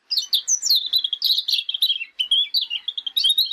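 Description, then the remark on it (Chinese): Two magpies, carried along on the road, chirp and chatter in a busy, unbroken stream of quick, high calls, fairly loud for the whole stretch, with no voices. “一路上这两只雀仔都在那里吱吱喳喳吱吱喳喳地叫个不停啊。”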